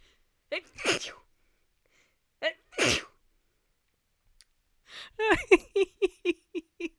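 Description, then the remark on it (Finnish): Two loud sneezes a couple of seconds apart, each with a quick inhale before it, followed by a rapid string of short, voiced bursts. “Siis niinku, mun oli pakko jättää nuo aivastukset tuohon, koska niinku, millä todennäköisyydellä nuo aivastukset tulee just silloin, kun mä meinaan sanoa”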